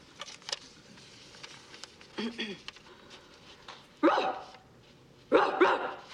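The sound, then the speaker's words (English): A dog in a courtroom scene of a film lets out a short, softer bark, then two loud, harsh barks about a second apart, with a low steady hum underneath. “Your Honor, could we have the court reporter read back the dog's testimony in response to his whereabouts on the day in question?”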